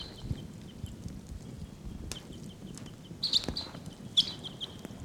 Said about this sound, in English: Wild birds are calling. I think they may take off.